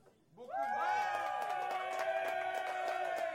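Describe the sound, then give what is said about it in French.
An audience votes by applause for a Chinese version with French subtitles, suddenly breaking into loud applause about half a second in, with sustained cheering and whooping voices ringing over scattered claps that continue steadily to the end. “Tout le monde comprend que chinois sous-titre en français, ça applaudit à la grosseur de”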